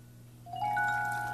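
A low steady hum, then a soft rush of running water starts partway through as a waterfall is switched on, continuing at an even level, joined by a thin sustained whistling tone. No one speaks.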